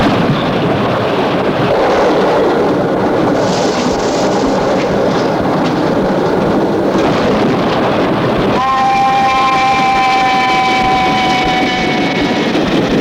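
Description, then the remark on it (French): A train rushes past with a loud, steady roar and rattle, and a shrill, sustained tone rises over the din for the last few seconds. No one speaks. “Il regardait aussi les trains passer.”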